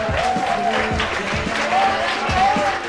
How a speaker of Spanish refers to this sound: Este aplauso es para vosotros, para nosotros, para nuestro compañero